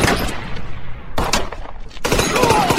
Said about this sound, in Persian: هریل چند بار به سمت جان شلیک میکنه.